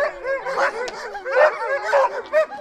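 A chorus of husky dogs barking, yipping and howling over one another in a dense, continuous clamor, several animals loud.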